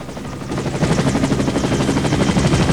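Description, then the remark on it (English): A military helicopter's rotor thuds in a steady, rapid beat over a dense engine roar, loud, growing slightly stronger as it comes in to land over a jungle, hovering just above the tree canopy. No voices. “A military chopper's coming in to land.”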